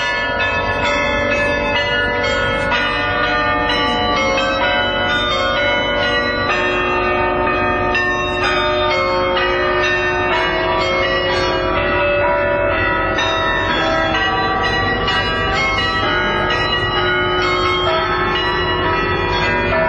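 A melody rung out on church bells, with loud, ringing strikes following one another steadily so the tones overlap and hum together throughout. No one speaks.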